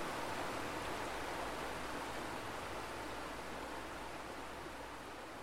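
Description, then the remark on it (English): A steady, unbroken rush of flowing water, like a stream or weir, fills the whole recording at an even, fairly strong level with no voices. “The poetry and the water sound.”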